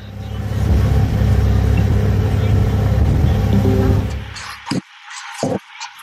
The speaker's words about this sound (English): All right, we're on a moving ferry. We just went under the bridge. It's a beautiful day here in New York. It's delicious. It's a nice day. But we're on top of the ferry. A lot of folks around talking. It's a full gang up here.